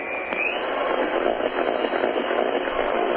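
An electric hand mixer whirs steadily, a continuous motorized buzz with a faint grinding texture as it churns thick banana nut bread batter, with no voices over it.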